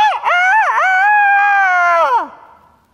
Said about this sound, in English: And then there was this shrill sound. It pierced the night. The sound of a rooster crowing slowly.